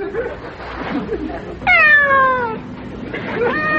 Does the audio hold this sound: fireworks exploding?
no